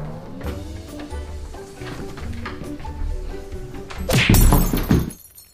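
Soft background music plays, then a door is slammed shut in a math teacher's face with one loud, heavy thud and a brief crashing rattle near the end before everything cuts to quiet.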